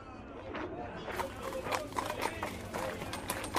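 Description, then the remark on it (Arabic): A donkey carrying a boy on its back, led by a man holding its bridle along a road, walks at a steady pace; its hooves clip-clop in a run of sharp knocks over a low, rumbling background. “أحبة الصغار، لم يمض وقت كبير حتى لقي جحا وابنه امرأة كانت تنظر إلى جحا وهو يمسك بلجام الحمار الذي يحمل الابن فوق ظهره.”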